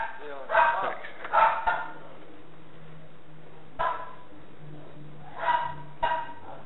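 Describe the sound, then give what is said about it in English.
A dog barks in short bursts, a quick pair, then a lone bark, then another pair, each sharp over a low steady hum. “Dog off there.”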